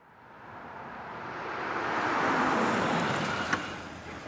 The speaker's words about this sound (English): Oh no! Here comes Dar in his whizzy blue car.